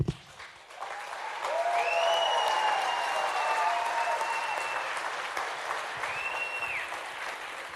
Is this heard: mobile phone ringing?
no